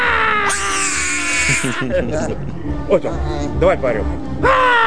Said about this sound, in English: This week, we have a screaming monkey and the monkey's owner or boyfriend.